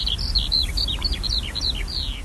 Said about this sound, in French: Un oiseau que tout le monde a entendu, je pense, enfin ben, presque tout le monde, c'est l'alouette des champs, qui est l'oiseau qu'on entend chanter au-dessus des champs de blé en été.